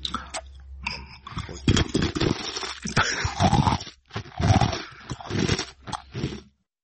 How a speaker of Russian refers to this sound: В конце новая … не выдерживает, из пафосной ноты соскакивает к привычному контенту и с удовольствием хрустит сушкой прямо в микрофон.